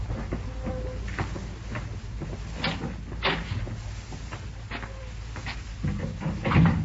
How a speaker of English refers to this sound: I'll go ahead and open the door.